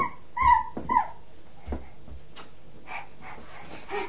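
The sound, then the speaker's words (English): A child's voice makes a couple of short, high, whiny dog-like whimpers, imitating a puppy, followed by quieter breathy sounds and faint murmurs. “I'm a doggy. You're a doggy now. I knew you were a doggy.”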